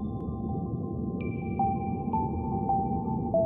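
Calm ambient music: a soft, steady low drone with long sustained high tones and gentle chime-like notes sounding about every half second, with no voices.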